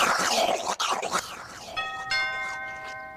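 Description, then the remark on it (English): After a second or so of busy, rustling noise, a doorbell rings out in two quick bright tones, the chime ringing on steadily and fading slowly to the end. “Somebody answer the fucking door and stop ringing the fucking doorbell!”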